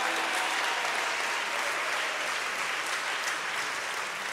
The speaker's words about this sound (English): How many of you love your pastor, his wonderful wife and family? Can you clap your hands and thank the Lord?